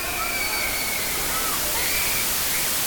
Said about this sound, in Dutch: Het zwembad met gladde tegels, waar je niet over mag rennen.